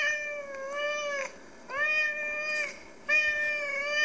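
A cat on a video shown by Bremen cat psychologist Petra Bauer meows three times in drawn-out, tonal calls with a two-syllable shape that sounds like the word "mama", each separated by a short pause; fairly loud, with no talking.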